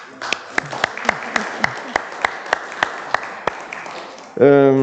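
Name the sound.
audience applause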